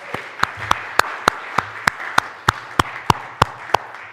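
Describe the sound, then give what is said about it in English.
Audience applause after singing at a Sunday service at Christmastime, with sharp, evenly spaced claps, about a dozen in a steady rhythm, standing out over a soft wash of room noise and scattered clapping. “How about just a round of applause”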